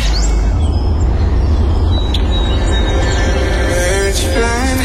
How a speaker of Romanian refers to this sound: S-au întors păsările migratoare.